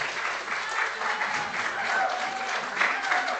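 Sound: audience clapping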